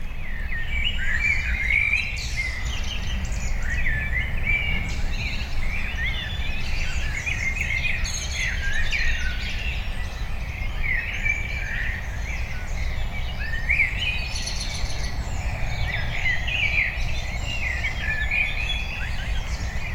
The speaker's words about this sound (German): Aber jetzt haben die Amseln schon quasi übernommen, ne?